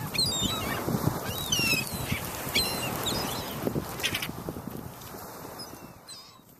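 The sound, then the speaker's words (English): A noisy flock of seagulls calls over and over, overlapping squawks and cries filling the air, with no voices, fading slightly toward the end. “So whether you are using a chainsaw or listening to seagulls, enjoy the Memorial Day weekend.”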